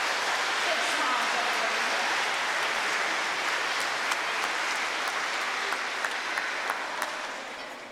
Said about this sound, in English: we just give them all one more round of applause? Wasn't that wonderful?